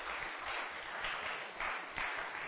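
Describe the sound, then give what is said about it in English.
A room full of people claps steadily, a dense, continuous patter of many hands that swells slightly and holds at a moderate level for a couple of seconds, with no one speaking. “You don't have to applaud.”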